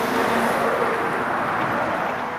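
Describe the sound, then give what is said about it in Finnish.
A car drives past on an asphalt road, its steady, loud roar of tires and engine heard throughout, with no one talking. “Jos mä näen, kuulen, että autoja tulee”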